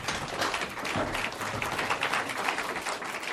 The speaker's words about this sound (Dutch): Dat is gul. Dat is echt gul. Dank u wel voor dit gulle applaus hier. Ja, live aanwezigen in Studio Amstel, nog levend en wel.